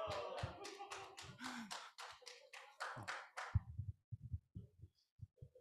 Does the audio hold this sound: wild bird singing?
no